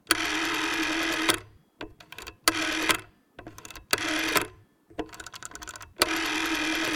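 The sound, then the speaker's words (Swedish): A rotary telephone dial whirs around and spins back several times in a row, each buzzing mechanical burst separated by brief pauses, with no voices. “Ingen har hört hur en nummerskiva på en telefon låter som är 15 år idag.”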